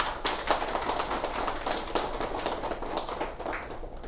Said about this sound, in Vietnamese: Xin đại chúng vỗ cho một tràng pháo tay.